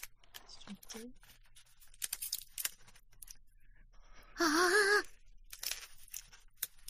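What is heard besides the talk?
crackling campfire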